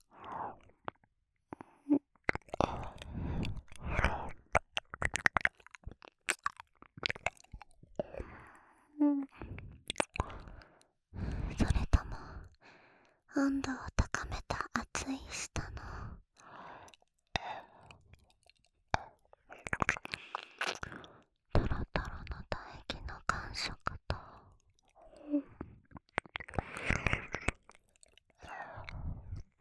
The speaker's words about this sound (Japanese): 兄者の甘い吐息と水音で、マスター答えは結構です。